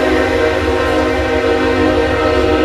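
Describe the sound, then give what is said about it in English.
A loud, sustained train horn blares over the rumbling of a passing train, the steady tone holding for the whole stretch with no voices. “We got the train going through.”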